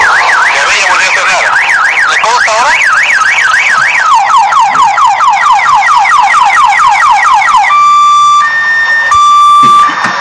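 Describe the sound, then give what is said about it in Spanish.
A car alarm blares continuously, going off for the third time in front of a Municipality of Miraflores inspector. It cycles through rapid warbling tones, then fast sweeping whoops, then steady alternating high beeps. It is loud and sounds alone, with no talking. “Carro ha vuelto a sonar por tercera vez delante de este señor que es fiscalizador de la Municipalidad de Miraflores, la municipalidad que dice combatir los ruidos molestos.”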